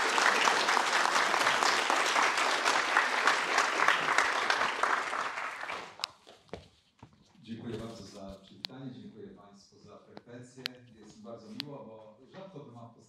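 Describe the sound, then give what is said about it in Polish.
Audience applause at a lecture welcoming the guest speaker, the head of Strategy and Future: a dense steady clatter of many hands clapping for about six seconds, then fading out as a man begins speaking. “Także proszę przywitać go oklaskami.”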